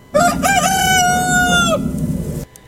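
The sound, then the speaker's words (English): A rooster that lived next door crows once, loud, a full cock-a-doodle-doo with a long sustained final note, followed by a moment of quieter background noise. “This next song I think requires a little rooster crowing in the beginning.”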